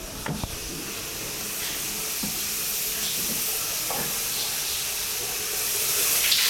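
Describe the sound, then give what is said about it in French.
A steady, hissing rush of water running in a green-tiled shower, one of four showers set like stadium changing rooms, constant, with a few faint knocks underneath and the spray growing slightly louder toward the end. “Et derrière, on entend en effet un bruit de douche.”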